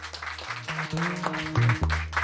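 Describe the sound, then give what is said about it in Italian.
Audience applause in a bookshop for a visiting priest, a dense steady patter of clapping lasting a couple of seconds, with low sustained musical notes running underneath. “Applauso per il Don che ci è venuto a trovare.”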